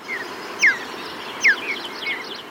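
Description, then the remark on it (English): Two short, clear mountain bluebird chirps ring out about a second apart, each a quick downward note, with a few fainter calls after them over a soft hiss. “After listening through hours of sound archives, they found a bird chirp that they really liked, the mountain bluebird.”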